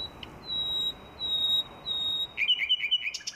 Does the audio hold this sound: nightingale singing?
yes